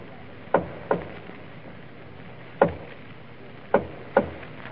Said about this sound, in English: It is 2 o'clock in the morning many months later. There's a soft rap on the door of the palace nursery.